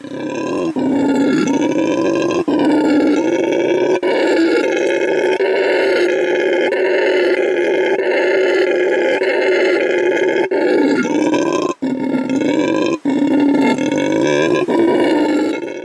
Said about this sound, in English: Nope, this is something very different. This is what a howler monkey sounds like.